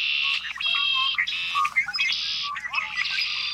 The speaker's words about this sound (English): As a year-round resident of North America, the red-winged blackbird has the potential to connect us all. no matter where we live.